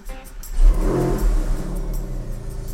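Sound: car engine revving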